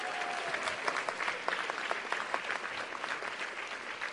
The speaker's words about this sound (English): And I wanted to say that, first of all, I wanted to thank all the devotees that found their way to the kitchen and made it possible that the prasadam yesterday lunch was just wonderful. I would like a big applause for all these devotees.